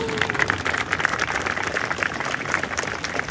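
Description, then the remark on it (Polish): Steady applause from an outdoor election rally crowd for MP Ryszard Wirk after his speech, dense overlapping claps forming a continuous wash of sound at moderate loudness, with no voices standing out. “Jeszcze raz wielkie brawa.”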